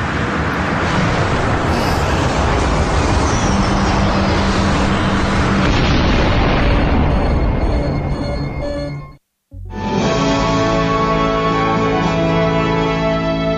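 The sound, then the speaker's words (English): A loud, sustained roaring rumble of the spacecraft Artemis crash landing on an unknown planet after a catastrophic engine failure fills the first nine seconds, breaks off into a brief silence, then gives way to a steady, buzzing electronic hum with layered tones. The crash is part of a Voice Arcade game mission. “You managed to survive the catastrophic engine failure and land the Artemis on an unknown planet.”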